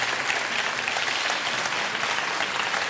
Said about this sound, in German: Ja, und ein herzliches Willkommen und einen herzlichen Applaus bitte auch für den Gast des heutigen Büchermarkts. Hallo, Ingo Schulze.